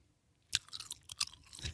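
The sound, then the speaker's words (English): Gum being chewed with moist, smacking clicks in an irregular rhythm, starting after a brief silence and ending on a louder, sharper snap. No one speaks. “I didn't know you had gum earlier.”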